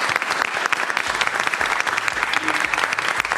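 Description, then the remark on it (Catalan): A live audience at a Catalunya Ràdio special claps steadily and loudly throughout, applauding a quote by philosopher Arthur Schopenhauer about health, a dense continuous wash of applause with no pauses, full for the whole few seconds. “Un aplaudiment, llavors, aquesta frase.”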